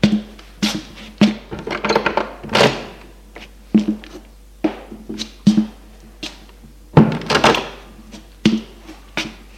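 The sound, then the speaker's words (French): A woman opens a door on the third floor of a building: a quick series of sharp clicks, rattles and wooden knocks from the handle and latch, spaced irregularly over several seconds, with no voices. “Au troisième étage, elle ouvre une porte et le fait rentrer.”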